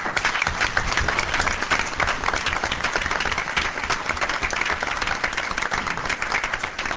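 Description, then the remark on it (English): A crowd at a university trustees meeting applauds a colleague for his work on an issue, steadily for about seven seconds, a dense, even wash of many hands clapping at constant loudness with no voices rising above it. “I would like to applaud him again for all that he has done for this issue.”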